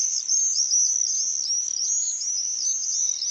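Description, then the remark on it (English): Common swifts screeching in a steady, shrill chorus of overlapping high-pitched trills and wavering screams that continue without pause, with no voices present. “They're really the sound of the summer, and you hear them screeching over your house, even if you live in a city like I did.”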